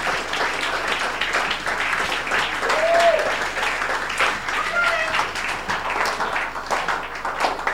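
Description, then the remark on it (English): An audience claps steadily, a dense, continuous wash of many hands applauding throughout, with a few faint voices and brief whoops rising above the noise. “Come on, let's give a clap of hands.”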